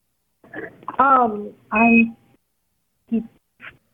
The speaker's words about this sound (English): What's that beeping? Are you recording my call? I'm not recording your call.